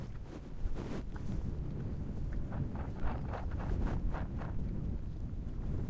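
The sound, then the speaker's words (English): Steady outdoor wind buffets the microphone with a low, rumbling roar, punctuated by brief gusty bursts and faint rustling; no voices, just continuous blustery noise. “It's getting pretty windy though. Yeah, it's starting to pick up.”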